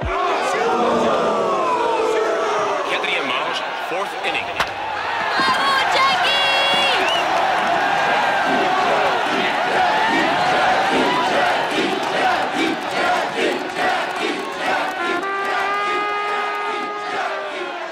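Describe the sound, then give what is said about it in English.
A large crowd of Montrealers roars and cheers continuously at a Montreal Royals baseball game as Jackie Robinson is announced batting at second base, a dense wash of many voices with occasional shouts and whistles rising above the steady din throughout. “Record numbers of cheering Montrealers helped Jackie Robinson break baseball's color bar that year.”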